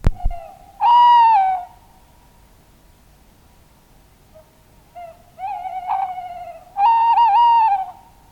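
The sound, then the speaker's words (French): A tawny owl hoots in clear, tonal calls: a long wavering note, a pause, then a quavering series ending in another drawn-out hoot, all over a steady faint hum with no talking. “Le ululement d'un chat-huant troubla le silence.”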